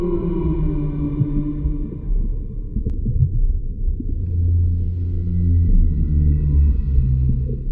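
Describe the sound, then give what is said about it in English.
Humpback whale song: long, low, mournful moans and sustained tonal calls rising and falling over a deep underwater rumble, continuous and fairly loud, with no voices present. “that's a humpback whale, known across the world, and at least in Star Trek the universe, for their complex, mournful, low-pitched songs”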